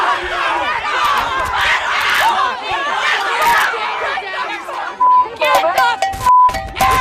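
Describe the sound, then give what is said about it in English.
A dense protest crowd shouts, swears and yells over one another in a loud, chaotic din amid pushing, shoving, tear gas and pepper balls, voices overlapping constantly, with a few sharp tonal beeps cutting through near the end. “The demonstration quickly descends into chaos. Swearing, yelling, pushing, shoving, tear gas and pepper balls.”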